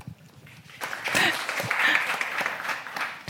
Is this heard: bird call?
no